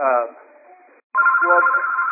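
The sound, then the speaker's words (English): A telephone rings in two loud electronic bursts separated by a brief silence, the tone steady, buzzy and slightly tinny. “Yeah, that ringing is annoying.”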